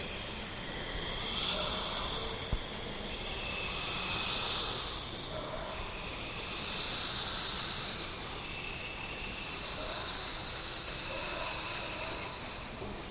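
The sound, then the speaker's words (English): A voice imitates a chorus of cicadas with a high, hissing, buzzy drone that swells and fades in four long waves, steady and fairly loud, with no talking. “And for me, it was very difficult to mimic that kind of fluidity and explosive power, those thousand cicadas singing in one single second. And I can only mimic 1,000% of what it is.”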